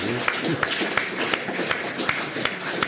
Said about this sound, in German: Jetzt erkläre doch, warum du geklatscht hast.